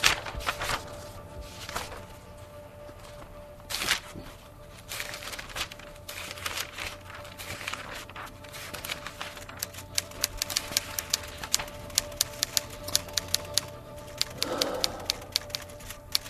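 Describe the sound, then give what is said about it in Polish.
Rustling and flipping of paper pages of a transcribed memoir, with soft swishes early on and a run of sharp, quick crinkling clicks toward the end, over a faint steady hum. “Tak, to jest papier, no te kartki zostały przepisane przez panie, które poświęciły swój własny czas, panie wymienione tutaj w tym naszym opisie z nazwiska, imienia.”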